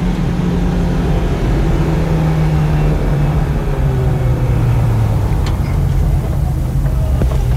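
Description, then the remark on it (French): A car speeds straight along a boulevard lined with buildings at about 100 km/h, its engine droning loudly and steadily with a roaring wash of road noise, the engine pitch gliding slightly as it goes. “Tout droit, tu fonces tout droit. À 100 à l'heure, hein.”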